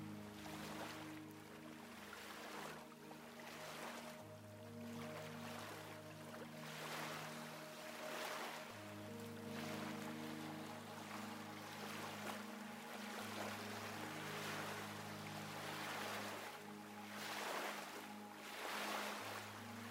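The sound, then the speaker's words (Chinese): Calm ocean waves lap gently onto a sandy beach at sunset with a slow, regular rhythm, each soft surge rising and fading every couple of seconds over a steady low hum, with no voices. “想象自己正静静地站在沙滩上，平静的海浪，温暖的海水，落日余晖映红了天边的云朵与海面。”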